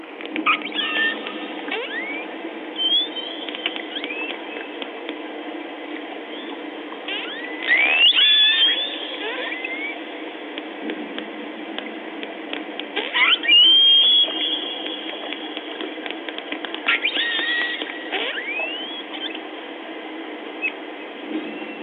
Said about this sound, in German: Okay, ich mache eine Grindwale-Pfeil auf und da hört ihr die Grindwale und im Hintergrund hört ihr so donnern. Das sind die seismischen Untersuchungen von der Ölindustrie. Hört mal zu.